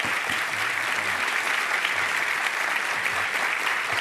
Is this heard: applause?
yes